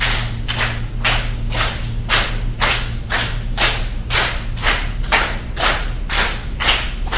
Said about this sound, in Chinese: 我们现在每一组就是大家是一起的哈，一二三四，然后就轮流，从第一组先，就是拍手，速度是一二三四，再回一二三四，懂吗？好，轮到你就拍手哈，好。